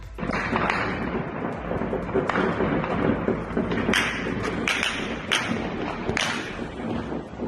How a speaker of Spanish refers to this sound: Son disparos. Disparos de pistola, ráfagas de ametralladora. Es el momento del atentado fallido contra el jefe de la policía local de México que se enfrentó a los cárteles de la droga. Una emboscada con armas de alto calibre